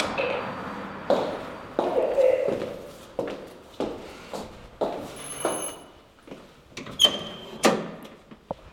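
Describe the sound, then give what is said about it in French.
The entrance door to the Expat Communication agency office, on the first floor to the right, opens amid a steady series of footsteps and knocks, with a couple of faint electronic beeps ringing out toward the end. “La porte est ouverte.”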